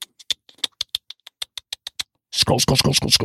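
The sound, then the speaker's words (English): A voice imitates keyboard typing with about a dozen quick, crisp mouth clicks in a steady patter, clear, then a person starts talking over the final second. “And if people are listening and not watching me on YouTube or Rumble, I am mimicking a typing sound and I'm saying scroll, like somebody's actually doing that all day.”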